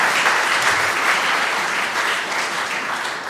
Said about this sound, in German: Und wo ist der Applaus? Genau, Dankeschön.